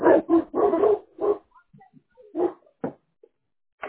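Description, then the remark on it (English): One big dog, of three huge dogs, barks in a quick burst of several sharp woofs, then pauses before a few more scattered barks, with faint whimpering sounds in between. “Well, right now only one's barking.”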